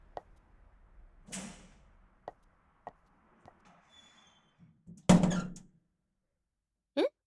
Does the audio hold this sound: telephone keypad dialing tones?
no